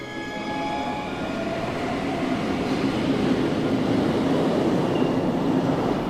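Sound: train travelling on rails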